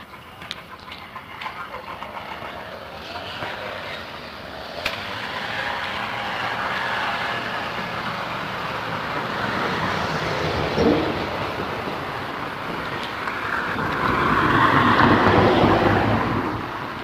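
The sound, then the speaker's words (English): A small motorized tool in the neighborhood, like a chainsaw, weed whacker or edger, drones steadily for the whole stretch with a rough, buzzing noise that swells louder near the end. “Can't tell if that's a chainsaw, weed whacker, or an edger.”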